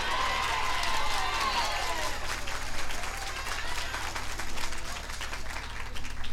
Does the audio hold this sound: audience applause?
yes